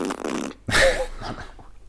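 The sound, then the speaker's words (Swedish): Someone blows a wet, sputtering raspberry with the mouth, imitating a fart: a low buzzy stretch, a short pause, then a louder blast that trails off into quieter spluttering. No speech. “Är du tvingat mig att läsa en seriös text och så sitter du och gör bruttljud?”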